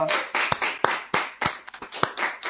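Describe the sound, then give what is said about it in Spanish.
Steady applause from a group, a dense wash of hand claps with a few sharp, louder claps standing out, continuing at a fairly even level with no voices. “Muy bien, fuerte el aplauso.”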